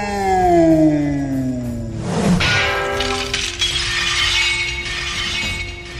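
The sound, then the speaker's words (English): A katana blade shatters with a sharp, loud burst after a falling, whining tone, leaving bright metallic ringing and tinkling fragments that shimmer on for several seconds. No one speaks. “How did you do that? You shattered my katana.”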